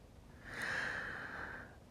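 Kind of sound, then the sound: human body sound, slow deep breathing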